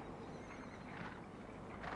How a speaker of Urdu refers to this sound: زمین پہ کان لگا کے سنو، مالک اشتر کے رہوار کی دھمک سے لرز رہی ہے.